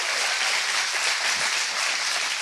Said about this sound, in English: It's the last weekend that we as Valor's Church will be worshiping in this venue, and we're actually moving next week to a temporary venue across the waterway at our new campus. Come on, let's give God a hand clap for that.